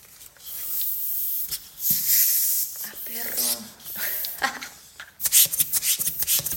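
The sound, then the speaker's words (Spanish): Airy hissing strokes from a small hand pump inflating a pastel-coloured balloon, mixed with squeaky rubbery rubbing of the balloon, turning into quick rhythmic pumping bursts near the end. “Yo he visto que los payasos estiran sus globos antes de inflarlos. Y compré una bombita y todo.”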